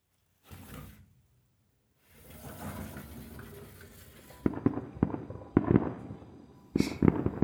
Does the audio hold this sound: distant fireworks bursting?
yes